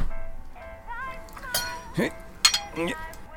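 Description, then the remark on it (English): A sharp metal tool clinks against a glass bottle stopper as someone tries to poke under the stopper rim, four or five bright taps in an uneven rhythm, each leaving a short ringing tone. “Maybe I need something sharp to poke under the stopper rim.”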